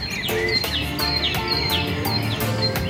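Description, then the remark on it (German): Several birds sing and chirp together in a steady early-morning dawn chorus, with repeated bright, descending calls rising over a continuous backdrop of twittering, fairly loud, with no talking. “Also es scheint Sinn zu machen, dass die Vögel relativ früh mit Singen anfangen.”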